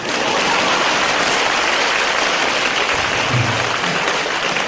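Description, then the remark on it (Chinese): A large audience applauds steadily after laughing at a speaker's joke, a dense, loud wash of clapping that holds at an even level for the whole stretch with no one speaking over it. “笑完之后鼓鼓掌啊！”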